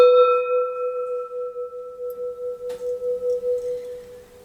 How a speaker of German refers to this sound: Wir gongen wieder.